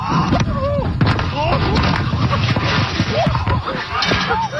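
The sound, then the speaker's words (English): A dull metallic clang, the thud of a man's head striking a slippery slide as he reaches the bottom, cuts briefly through steady overlapping voices and chatter. “Now listen closely to the clip, because you will hear this metallic kind of thud. It's a clang.”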